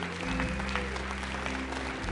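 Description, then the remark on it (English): An audience applauds steadily, a dense wash of many hands clapping at once, sustained and fairly loud with no pauses throughout the short stretch. “I mean, listen to the applause.”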